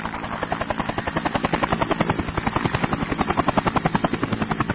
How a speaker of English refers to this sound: Now that sounds a bit like one of those Vietnam-era helicopters. And so I'm very tempted to run out onto the roof and wave both hands above my head to get picked up, Saigon style.